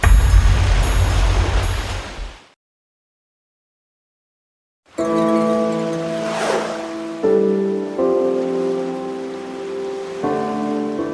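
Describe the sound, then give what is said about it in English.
Loud, rushing choppy river water churns and splashes for about two seconds in rain and fog, during a state police marine boat search for a missing kayaker, then cuts to silence before a steady, droning tonal sound takes over. No one speaks. “A state police marine boat with sonar spent the day in the rain, fog, and choppy water conditions searching for a missing kayaker.”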